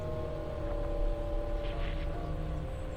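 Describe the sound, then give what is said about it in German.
A steady, droning engine rumble, like an airplane passing overhead, holds at an even loudness throughout with a low hum and faint tonal whine, no voices present. “Ein Flugzeug am Himmel.”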